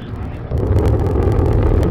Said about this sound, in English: Main engine start. zero, and liftoff of the Delta rocket with Opportunity, a chance to explore and unlock the secrets of our neighboring planet.